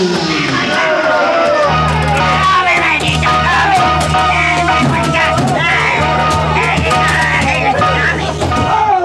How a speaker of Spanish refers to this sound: Todos los músculos de su atlético cuerpo están en tensión. Suda copiosamente. Es como un hombre de bronce, gigantesco, incontenible. Y avanza lanzando su grito de desafío.